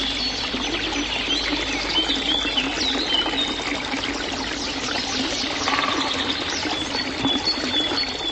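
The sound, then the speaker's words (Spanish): A steady, rushing murmur of the flowing water of the Blanice River in the 75-hectare palace park of Vlašim, with scattered bird chirps and brief songs sounding faintly throughout. “No se escucha otro ruido que el murmullo de sus añosos árboles, el rumor de las aguas del río Blanice y el canto de los pájaros.”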